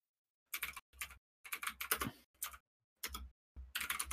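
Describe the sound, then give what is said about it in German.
Clattering clicks as a pair of techwear trousers is handled, coming in six short, bright bursts with brief pauses between them. No one speaks. “Einen Moment, da hört man es wieder klickern.”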